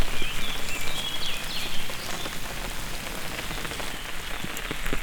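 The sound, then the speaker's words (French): Steady, dense rain that has grown heavier patters hard on a surface, a continuous wash of drops with faint bird chirps briefly audible in the first couple of seconds. “La pluie a donc forci.”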